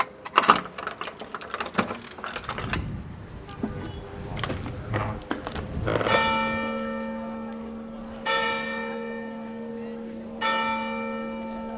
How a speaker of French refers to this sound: L'eau arrive. Il court à l'église, au clocher, saisit la corde de la seule cloche pour que les paysans des fermes éparpillées au loin se réveillent.